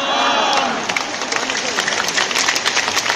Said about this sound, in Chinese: 你们不要盲目地鼓掌，听下这把声是不是好一点，是不是好一点？你们不要盲目地支持啊，讲得不啱的你可以不用拍手掌，但是如果我真的讲得啱的，你就要怎样啊？